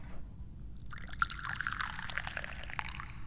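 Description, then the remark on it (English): Jin Jun Mei tea being poured into a cup, a steady stream of liquid starting after a short pause and continuing with a bright, splashy trickle until the end. “I'm glad you're joining me here today, because it's time to pour the tea.”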